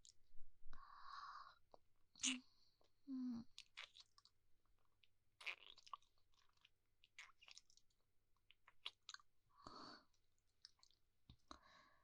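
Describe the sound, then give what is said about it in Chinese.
Quiet wet mouth sounds of biting and nibbling on the soft skin of the inner arm, with soft smacks, breathy rustles and a few sharp clicks scattered irregularly throughout, with no talking. “这里的肉软软的，咬一口”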